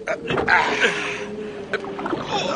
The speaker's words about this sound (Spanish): Eso significa que tendremos una tormenta feroz. Todo está oscuro. No se ve una estrella. Vienen las olas. Cortémoslas con la proa. Rememos.